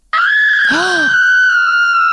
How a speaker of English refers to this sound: I meant to hit this. But okay. I hit a scream.